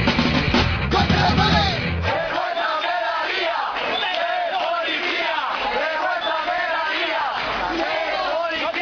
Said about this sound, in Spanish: Estos son los gritos de la gente que poblaba la plaza de Lavapiés el pasado lunes en la famosa, tristemente famosa, redada de la policía contra gente solamente por tener una falta administrativa, que es no tener papeles.